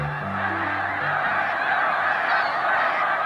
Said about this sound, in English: Snow geese flocks are massive. During migration, they gather in the tens of thousands, and they coordinate their movements with the skill of schooling fish or starlings that turn together on a dime.